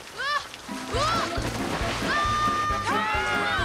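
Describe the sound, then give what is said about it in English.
Loud, continuous rushing and sloshing of a torrent of water running down rocks fills the whole stretch, with rising and falling squawking cries on top and a steady rhythmic thumping underneath. “Carl slips and slides down the rocks in a torrent of water.”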